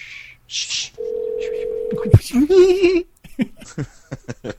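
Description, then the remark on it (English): A telephone rings on an outgoing call to someone in Pennsylvania: one steady electronic ring tone lasting about a second, cut off by a click, then muffled voices and rustling follow. “Okay, I'm going to answer it, so everyone, shh. Is it ringing?”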